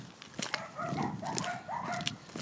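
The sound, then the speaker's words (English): Two small Bichon Frise dogs yap and bark in quick, overlapping bursts outdoors, their high-pitched barks repeating steadily with no one speaking. “Can you hear that? That's a pair of Bichon Frise, or whatever you call them.”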